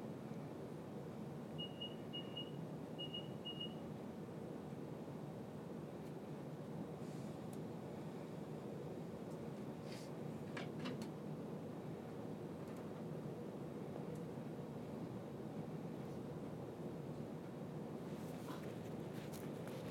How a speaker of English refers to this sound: So we're on the train to Lancaster now, but I'll go off at Preston. Next stop.